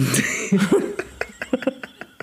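A person coughs, a few harsh voiced coughs at first, then a quick run of shorter, sharp hacking bursts in an uneven rhythm.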